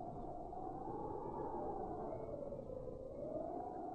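Wind blows steadily, a broad rushing hiss with a low howling tone that slowly rises and falls, continuous and fairly loud throughout, with no voices.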